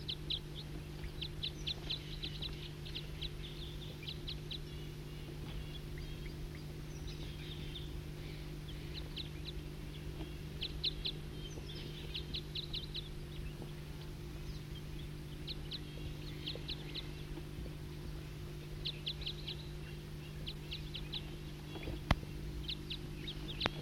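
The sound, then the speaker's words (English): A wild bird calls in repeated bursts of high, rapid chirps, pausing between phrases, over a constant low droning hum. Nobody speaks. “Start recording a wild bird.”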